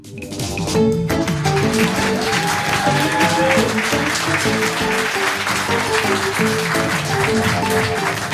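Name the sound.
audience applauding loudly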